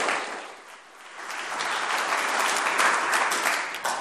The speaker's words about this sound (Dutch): En dan zullen we jullie met een hartelijk applaus verwelkomen.